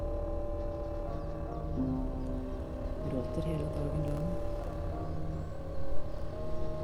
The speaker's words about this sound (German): Ich höre nichts. Ein Flugzeug am Himmel.